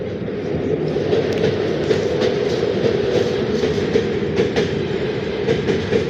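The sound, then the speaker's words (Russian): A freight train, not a passenger train, rolls past, a loud, steady rumble with a rhythmic clickety-clack of wheels over rail joints running the whole time and no voices. “На этот раз это не пассажирский поезд, а этот самый, как он называется?”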